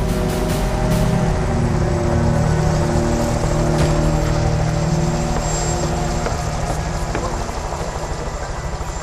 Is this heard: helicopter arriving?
yes